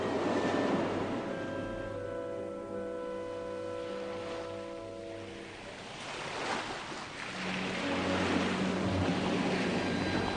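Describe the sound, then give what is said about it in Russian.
Heavy sea waves roll evenly against the shore one after another, swelling into a louder surge midway, with a steady low humming drone running underneath. No one speaks. “Тяжелые волны мерно и ровно катились одна за другой, едва приподнимая одинокую лодку, причаленную к берегу.”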